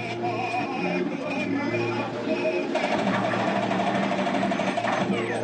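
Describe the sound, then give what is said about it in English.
Opera music plays from a virtual jukebox in a terrorists-versus-counter-terrorists shooting video game during a Cyber Athlete Professional League qualifying match, a sustained singing voice over dense, steady accompaniment that holds at an even, fairly loud level, with a busy mechanical clatter mixed underneath. “Members of Team AP try to safeguard their hostages while a virtual jukebox in the game plays opera.”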